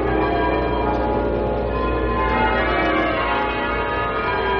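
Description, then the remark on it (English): The bells of St. Paul's cathedral ring half-muffled in a continuous, overlapping peal as a funeral service ends and the casket leaves, loud, with the strokes alternating between clear and dulled and the tones blending into a steady wash. No one speaks. “Now you hear the muffled bells as the service comes to an end.”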